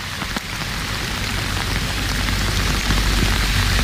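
Heavy rain pours down in a dense, steady roar, loud and continuous, with a rumbling low end and no voices heard.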